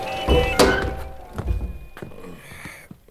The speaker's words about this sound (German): Ich möchte das Fenster schließen. Man versteht ja sein eigenes Wort nicht mehr.